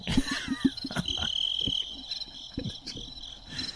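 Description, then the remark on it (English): Crickets chirp steadily in a quiet night-like ambience, a continuous high trill with a few soft low pulses underneath, no voices present, played as a brief awkward-silence sound effect. “Seven post crickets.”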